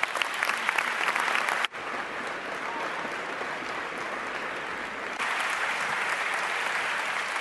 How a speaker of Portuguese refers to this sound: Obrigado a todos. Uma salva de palmas muito forte para todos vocês.